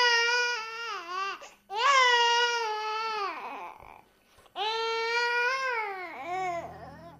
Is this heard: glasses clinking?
no